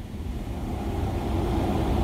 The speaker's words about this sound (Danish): Men det blæste også for sindssygt meget.